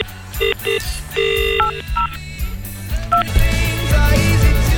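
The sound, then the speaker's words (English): A telephone is dialed to ring someone: a string of short, distinct keypad tones at uneven intervals, clear and up front over a steady musical backing, with no one speaking. “And I'm going to ring one of them.”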